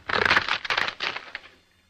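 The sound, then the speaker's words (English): Dry cracking and splintering of wooden fruit boxes being broken, in a few quick bursts over a second and a half before fading to quiet. Part of a sound effect created for the Mr. District Attorney show. “It was made up originally of some fruit boxes being broken, like this.”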